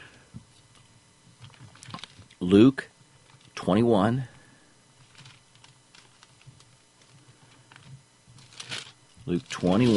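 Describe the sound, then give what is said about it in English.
Pages of a Bible are turned while looking up verses, producing several short, crisp rustling bursts separated by quiet pauses, with a faint low hum underneath. “You hear the pages turning. You know that I'm looking it up.”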